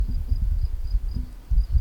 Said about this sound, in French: Grillons. Des mouches.